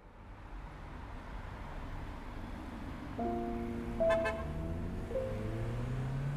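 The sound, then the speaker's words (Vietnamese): Steady roar of highway traffic rushing past, with a few horn toots rising over the rumble midway through. No one speaks. “Con đường cao tốc dài hun hút, dòng xe cộ tấp nập lướt qua như những cơn gió cuối hạ đầu thu.”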